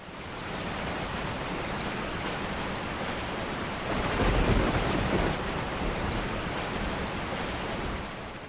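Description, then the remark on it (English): Steady, heavy rain hisses throughout, and midway a deep roll of thunder swells up and fades back into the downpour. No voices, just the storm. “His knee was right about the storm.”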